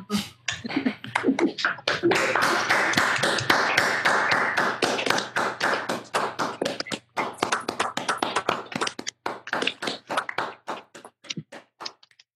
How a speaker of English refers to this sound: I haven't done this on Zoom so far. Maybe we could all unmute our microphones and just give him a round of applause and turn your volume down on your computer just in case it blows your speakers or something.